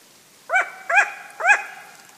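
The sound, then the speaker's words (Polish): A long-eared owl gives its alarm call in the French Pyrenees, recorded by Cédric Mroczko in November 2020 at 5:40 in the early morning: three short, harsh, bark-like notes, evenly spaced about half a second apart, fairly loud against a quiet background with no voices. “To jej głos alarmowy.”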